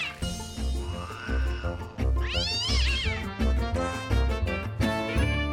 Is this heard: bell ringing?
no